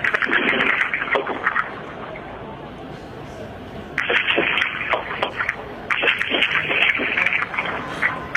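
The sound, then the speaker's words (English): Sharp cracks of gunfire from a protest scene involving pro-Mubarak supporters go off irregularly, some in quick clusters, as they have for about an hour, over a steady hiss of background noise, with a quieter lull in the middle before the shots pick up again. “you can hear it right now, are the cracks of gunfire going off, as they have done for the last hour or so.”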